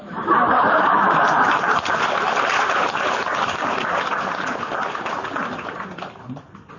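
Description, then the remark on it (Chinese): An audience claps steadily for several seconds after a joke is told, a dense crackle of many hands mixed with a little laughter, holding at a moderate level before tapering off near the end. “好像鼓掌不热烈，不讲了，鼓掌热烈点。”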